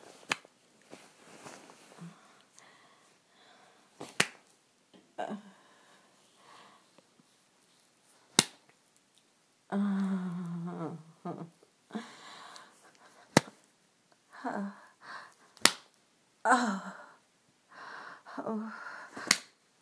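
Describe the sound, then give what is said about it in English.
Sharp, crisp slaps of a hand on bare skin ring out one at a time at irregular intervals, about seven in all, loud, between quieter breathy vocal sounds and heavy breathing. “So when you say slap my pussy, yes, sir.”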